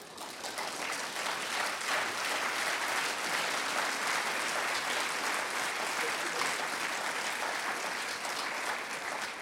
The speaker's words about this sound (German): Also der Applaus war jetzt für die Brüder, die zu Hause sind. Hoffentlich habt ihr den Applaus mit aufgenommen. Gut, ja. Ne? Die Brüder haben applaudiert.